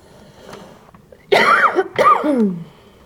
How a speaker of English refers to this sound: I don't even cough out there, but I cough in here.